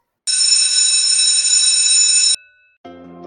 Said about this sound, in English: Yep, that's our college bell. Need to head back to classes